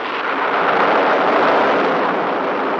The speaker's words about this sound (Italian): Adesso sentirai il tuono.